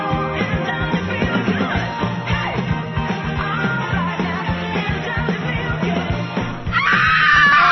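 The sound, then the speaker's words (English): A loud, continuous chorus of screaming and wailing voices, layered and chaotic, with a shrill burst near the end rising even higher. “There was screaming and gnashing of teeth going on.”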